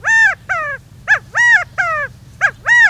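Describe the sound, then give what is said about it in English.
An Australian laughing kookaburra calls loudly in the depths of the Florida Everglades, a run of seven harsh, rising-and-falling hoots in an uneven rhythm over a low background rumble. “An Australian laughing kookaburra guffaws in the depths of the Florida Everglades, startling a lost pair of escaped convicts.”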